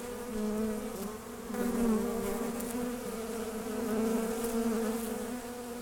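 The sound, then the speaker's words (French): Honeybees buzz in a steady, dense drone that swells and eases slightly, a continuous hum of many wings with no voices present, as they collect the last drops of honey from a person's finger, arm and nose. “Elles viennent chercher les dernières gouttes de miel sur mon petit doigt, sur mon bras, sur mon nez, sous mes aisselles.”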